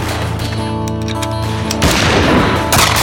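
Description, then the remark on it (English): A steady droning tone plays before loud Winchester rifle gunfire erupts, fired over a windowsill, with a rough rapid burst of shots followed by another sharp blast near the end. “Claiborne edged the Winchester's barrel over the windowsill and risked a look.”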